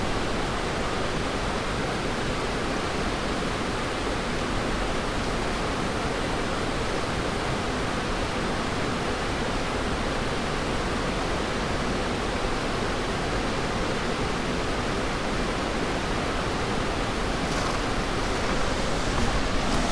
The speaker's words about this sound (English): We are at High Steel Bridge, the nation's tallest railroad bridge. The water on the north side sounds different than the south side. We're going to listen to the north side first.